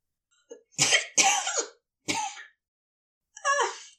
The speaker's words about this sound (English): Crowley will accept that it's entirely his fault that Aziraphale spends a moment coughing liquid out of the wrong pipes.